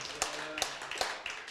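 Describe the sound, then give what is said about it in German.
A handful of scattered hand claps from an audience applauding the technician, sharp and fairly quiet, coming at uneven intervals about every few tenths of a second, with no voices over them. “Applaus.”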